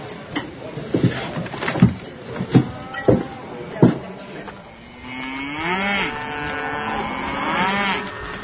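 Several sharp, irregular knocks and clatters give way to a long, drawn-out cow moo that wavers in pitch for a few seconds, loud, with no one talking.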